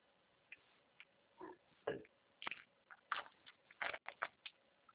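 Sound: pig oinking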